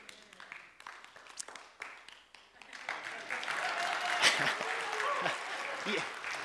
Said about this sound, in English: You didn't have to clap, but if you're going to clap, you got to clap, okay?